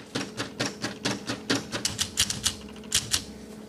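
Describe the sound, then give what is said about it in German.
Rapid mechanical clattering of a grey teleprinter in a bunker's teleprinter room being typed on, storing the message on punched paper tape, with sharp irregular key strikes in quick bursts, fairly loud, a low machine hum beneath and no voices. “Im Endeffekt ist der Fernschreiber halt ein normales Gerät, mit dem man die Nachricht zuerst vorschreibt.”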